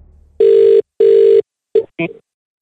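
A telephone ringback tone on an outgoing call sounds as a double burst of a steady, buzzing ring over an earpiece, followed by a short pause and then a brief voice answering over the line.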